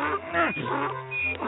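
donkey

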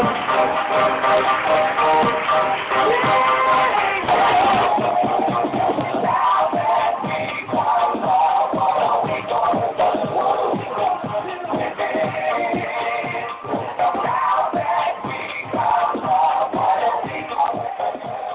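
round of applause

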